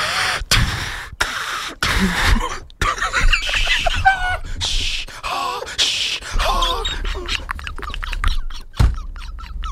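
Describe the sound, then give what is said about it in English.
Loud heavy breathing through a mask, a run of harsh rasping inhales and exhales mixed with groaning, wheezy vocal tones, with no other sounds around it. “The breathing gets heavier.”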